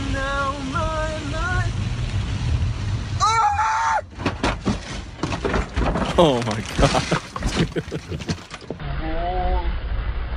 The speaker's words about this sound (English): Oh my God. Dude, okay. That's so funny. I love the scream. There's nothing funnier than that scream.